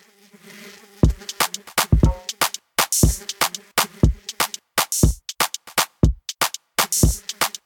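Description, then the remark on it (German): A steady, droning bee buzz, sampled at the start of a song, opens alone for about a second, then continues beneath a punchy, rhythmic drum beat of sharp repeated hits. Nobody speaks. “Diese Wichser haben jetzt hier keine Biene gesampelt, Alter.”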